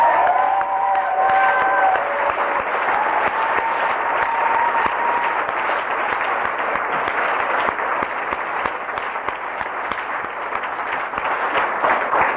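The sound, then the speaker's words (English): A crowd at a Narcotics Anonymous meeting claps steadily for about twelve seconds: a dense, loud patter of many hands with no pause, plus a few faint whistled tones near the start. “And for those of you who wouldn't take your own recognition, I applaud you.”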